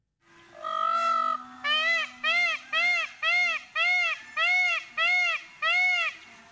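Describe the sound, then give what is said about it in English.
A peacock screams over and over, one long wailing cry followed by about eight loud, piercing calls in a quick, steady rhythm, with nothing else around. “You hear the dogs barking, the birds chirping, or even peacocks screaming.”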